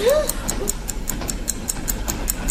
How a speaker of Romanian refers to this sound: Auzi? Trebuie să fie ceasul bombei.